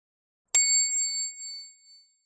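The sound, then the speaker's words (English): A single bright phone notification ding rings out clearly, then fades away over about a second and a half, with silence before and after and no voices. “Mum, it is your phone.”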